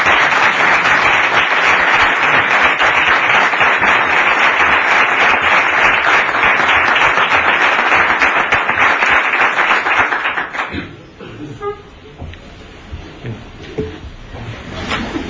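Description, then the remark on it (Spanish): Sustained audience applause, a dense, loud wash of many hands clapping for about ten seconds, then it fades quickly into quiet with faint stray sounds; applause for the pregón speakers at an event of the Hermandad de la Amargura of Jerez, held at the Consejo de Hermandades headquarters. “Y al daros las gracias, queremos confirmaros nuestro cariño y admiración en medio de un aplauso que quiero sea el aplauso adelantado vuestros pregones.”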